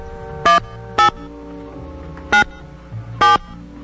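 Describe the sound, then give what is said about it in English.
A telephone ringing tone sounds over a call line: four brief, clear electronic beeps at uneven intervals, moderately loud against a quiet background hum, with no one talking. “It's ringing.”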